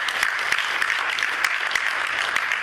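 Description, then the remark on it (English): A crowd applauds steadily for people involved in children's or youth ministry, dense overlapping claps forming a continuous wash of sound with occasional sharper individual claps standing out, sustained at an even level throughout. “I mean, let's just give these guys a round of applause, because that's what they're doing.”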